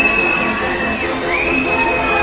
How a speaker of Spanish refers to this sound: Los aplausos que escuchan son para la ministra de Educación, Pilar del Castillo, que hace su entrada en este momento en el Teatro Campo Amor.